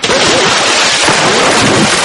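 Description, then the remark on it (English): Loud, continuous splashing of water at the beach as people play in the warm water, a dense rushing wash with no pauses, filling the whole moment. “Maybe that's enough splashing.”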